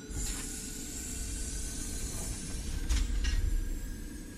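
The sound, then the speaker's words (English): A bubble car launching: a steady engine roar with a deep rumble and a broad hiss runs throughout, swelling slightly toward the end, with a couple of brief whooshing bursts over the top. “Launching bubble car.”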